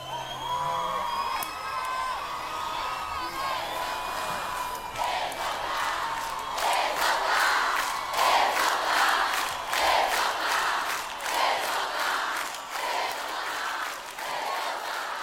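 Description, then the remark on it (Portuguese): A crowd cheers and shouts loudly, with whoops rising over dense applause; the clapping grows stronger partway through and continues steadily to the end. “Aplausos”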